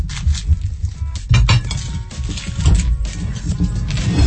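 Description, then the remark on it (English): A knife chops through a brown onion on a board: a steady run of sharp, uneven taps and thuds with light clattering, fairly loud and continuous, no talking. “It's like you're preparing onion rings for a sausage sizzle.”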